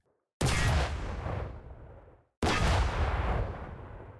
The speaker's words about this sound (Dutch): Ik zie de meester kanonier, die staat achter het kanon. Hij rolt, as we speak, een kanonskogel erin. Klaar, vuur!